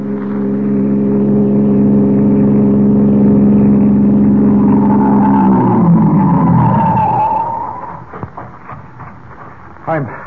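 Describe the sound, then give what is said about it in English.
A passing car on a road, flagged down by a police captain, drones loud, its steady hum falling in pitch as the vehicle slows and pulls up, then the motor fades, leaving a few faint clicks and thumps. “The police captain, left unconscious in the bushes at the side of the road, has recovered sufficiently to stagger to his feet and attempt to flag a passing car.”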